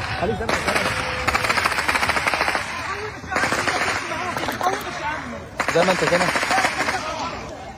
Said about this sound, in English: Video captured by Palestinians seeking food at one of the private aid points shows crowds of hungry people running under rapid gunfire.